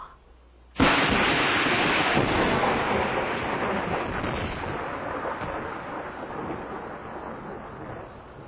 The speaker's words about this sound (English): As we look in on the mansion in Inverness, night has fallen. The rain continues.